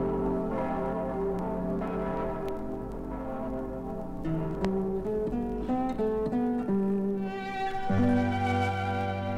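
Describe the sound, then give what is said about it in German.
Deep, resonant church bells of the two Frauenkirche towers, the landmark of Munich, peal together in a continuous, overlapping swing, low booming tones layered with ringing overtones, steady and loud with no voices. “Denn die zwei möchten mit ihrem feierlichen Geläute ein herzliches für Gott all denen zurufen, die München lieben.”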